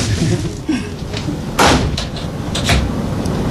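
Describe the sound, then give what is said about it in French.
A cupboard door swings shut with a solid thud, followed by a couple of lighter knocks and rattles against a steady background hum. “D'accord, bon, on peut refermer ton placard alors.”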